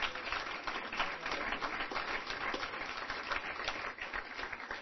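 An audience applauds the announced 2006 to 2009 alternate board member from Kenya, for the Eastern region, in a dense, steady wash of many hands clapping, holding an even level for about five seconds with no voices over it.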